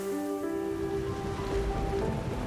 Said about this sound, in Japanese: 荒れ狂う波の音なのか、自分の叫び声なのかももうわからない。叫びですらかき消される波の激しさに自分の無力を思い知りつつ、それでも旅人は涙と叫びを抑えることができなかった。